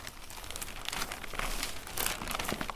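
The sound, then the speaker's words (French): A newspaper rustles and crinkles steadily for a few seconds as it is picked up again, a dry, crackly crumpling sound with bright high-frequency edges and brief louder bursts, with no voices. “Elle reprend son journal.”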